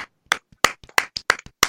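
One person clapping alone, about eight sharp, loud hand claps in under two seconds, slightly uneven in rhythm, with brief silences between them and no voices.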